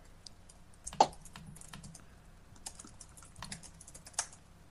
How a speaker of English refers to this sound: People typing things.